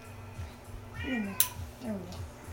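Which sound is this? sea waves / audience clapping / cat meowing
cat meowing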